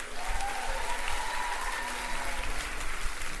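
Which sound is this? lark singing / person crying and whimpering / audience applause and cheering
audience applause and cheering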